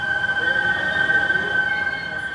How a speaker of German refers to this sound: Dieses Pfeifen, das ist das Wasser der Seine, das durch die Filter in die schwarzen Rohre hier fließt. In den Filtern fließt sie schneller und deshalb pfeift sie. Wir sagen, sie singt.